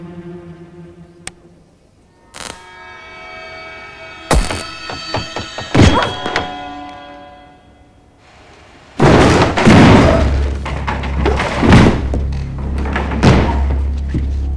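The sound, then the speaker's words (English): A few sharp, heavy hammer thuds land at irregular intervals as a man strikes a thug from behind with a hammer, then a loud sudden crash of a light bulb shattering bursts out, followed by lingering clattering noise and a low rumble. “The light bulb shatters as David hits him from behind with the hammer.”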